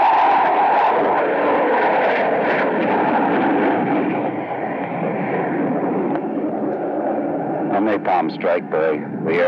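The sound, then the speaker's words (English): A loud, steady jet roar fills the whole stretch as Air Force jets pass overhead preparing to make strikes at the enemy, with muffled voices breaking through near the end. “Air Force jets are overhead. Preparing to make strikes at the enemy.”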